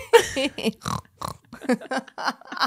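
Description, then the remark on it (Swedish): A person laughs with a quick run of small, pig-like snorting grunts, roughly eight short nasal bursts in a choppy rhythm, fairly loud. “Ja, och sen så kommer ett litet grisljud.”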